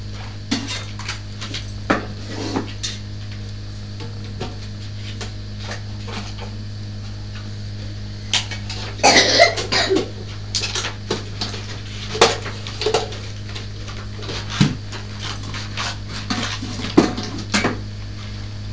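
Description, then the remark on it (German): Scissors snip through paper for crafting in scattered, uneven bursts of crisp clicks and rustles, with a steady low hum underneath and no voices. “Ich nehme die Schere.”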